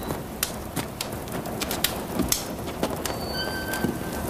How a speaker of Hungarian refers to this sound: De mit mászkál ez itt az esőben? Mindig otthon gubbozt. És most jön ki, mikor szakad.